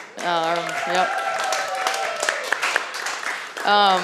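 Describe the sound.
An audience applauds with a steady wash of clapping, mixed with loud whoops and cheering voices that rise at the start and again at the end.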